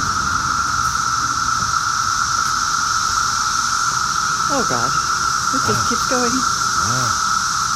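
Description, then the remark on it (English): A loud, unbroken chorus of cicadas outdoors in Maryland, at about 71 decibels, hums as a steady high-pitched buzzing drone, while voices briefly speak over it near the end. “To give you a sense of how loud these cicadas are, I'm going to start in the kitchen and walk outside.”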